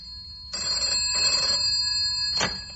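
telephone bell ringing

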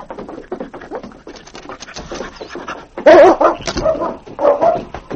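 dog barking

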